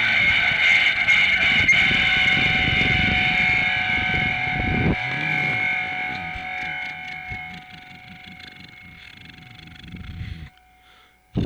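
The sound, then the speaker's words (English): An approaching car's loud, steady engine rumbles with a whining tone, slowly easing off before it stalls, sputtering and cutting out near the end. No voices are heard. “It stalled. It's still coming. Here, wait, it's coming in. Here it comes.”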